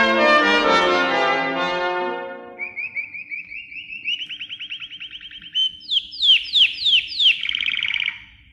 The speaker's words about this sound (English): Dear Algernon, your four collie birds have just arrived and could, more aptly, be described as callie birds, since that is what they seem to do best.